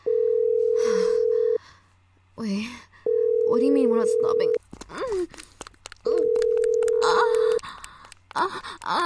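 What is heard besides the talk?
telephone dial tone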